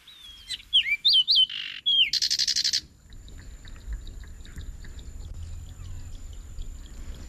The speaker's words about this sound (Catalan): Recordes aquest ocell? Sí. Quan sí. el vas enregistrar? Sí, sí que ho recordo. Sí. Fidel Castro estava viu. Sí. Any 72 a Cuba. Sí, a la Ciénaga del Zapata.